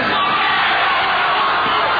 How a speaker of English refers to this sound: Listen to them screaming.